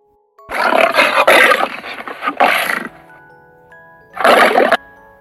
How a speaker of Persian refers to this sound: شیر به بچه ها نگاه کرد، به معلم کتاب خانی نگاه کرد، به کتاب های توی دست معلم نگاه کرد، بعد غرش بلندی کرد.